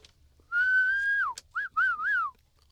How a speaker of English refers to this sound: You can't whistle for yourself. Did I bring it? She was whistling for herself. That was someone else.